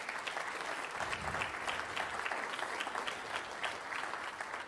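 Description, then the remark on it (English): Steady, sustained applause from a crowd of parents, giving thanks to two people, dense overlapping claps holding a fairly even loudness throughout with no one speaking over it. “And every parent in the place gave a round of applause for Matt and Holly.”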